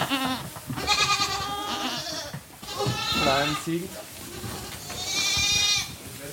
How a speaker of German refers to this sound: hat sich auf Ziegen spezialisiert. Mehr als 1.000 sind es in seinen Ställen.